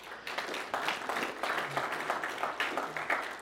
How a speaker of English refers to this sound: Thank you for the applause for my wife. She deserves it.